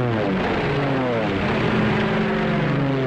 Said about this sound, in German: Die Chance, in Nürnberg zu überleben, als sich 521 englische Flugzeuge der Stadt nähern, ist gering.